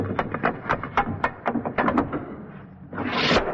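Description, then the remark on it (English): A rapid series of scraping, rattling strikes against wood, then a rising, hissing metallic slide that swells and cuts off abruptly: a foley guillotine-blade effect made by the sound man on the Bishop and Gargoyle show, running a piece of metal up and down the side of a door. “This jovial sound effect was accomplished by the sound man on the Bishop and Gargoyle show, running a piece of metal up and down the side of a door to produce the sound of a guillotine knife falling.”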